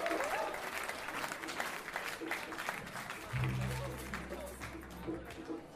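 An audience breaks into loud, sustained applause and cheering, a dense wash of clapping throughout, with a low sustained tone entering partway through.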